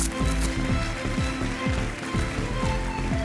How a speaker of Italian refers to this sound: Aspetta, facciamo un applauso a tutti ai tecnici. Entrate!